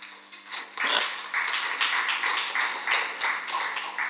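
A small audience claps steadily for about four seconds for a presenter, a dense patter of overlapping hand claps at an even level that rises quickly and holds without fading, with no voices over it.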